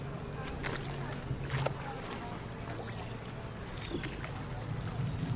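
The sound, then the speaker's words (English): A kayak paddle's green blade, held square, is reached out in front, dropped in the water and pulled back in a few irregular, splashy strokes, over a steady low outdoor rumble with faint voices in the background. “And I want you to reach out in front of you, drop it in the water and pull it back towards you.”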